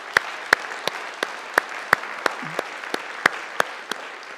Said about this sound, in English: So, and we're pretty happy about that. So let's applaud that together.